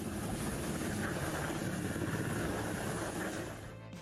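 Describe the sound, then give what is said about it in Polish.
A loud, steady roar of a helicopter flying in windy weather to lift an incomplete or damaged helicopter from a beach, mixed with gusting wind buffeting the microphone, constant throughout before easing slightly at the very end. No one speaks. “Helikopter właśnie będzie zabierał inny, niekompletny lub uszkodzony helikopter z plaży.”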